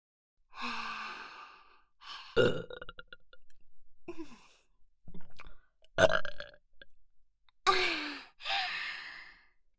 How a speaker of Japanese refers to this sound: もっと臭いゲップたくさんかけてあげるから